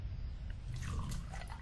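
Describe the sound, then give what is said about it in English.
A drink is poured into a glass: a short, steady stream of liquid splashing and trickling, fairly quiet, with no voices. “So I poured myself a drink to ease my nerves.”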